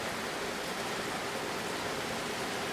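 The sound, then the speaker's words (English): Steady rain pours down outside in a dense, unbroken hiss that stays even in loudness throughout, with no voices or other sounds over it. “Yeah, I think it is, it's calmed down a little bit to at least sort of normal rain.”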